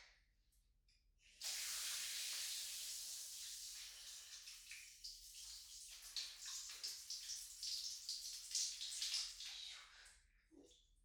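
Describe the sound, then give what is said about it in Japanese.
A shower sprays steadily for about nine seconds, a bright, hissing rush of water that starts abruptly and wavers in strength as the stream moves, then cuts off. “あ、シャワーかけちゃいますよ。”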